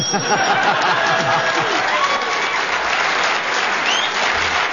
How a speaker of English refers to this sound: Well... deserved round of applause, Kit.